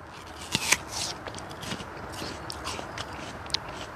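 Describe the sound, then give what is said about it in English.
A crisp bite into a perfectly round, store-bought apple, two sharp snaps early on, followed by soft, moist crunching and chewing, with one more brief crack near the end. No one speaks. “Which is what you'll find with most store-bought apples.”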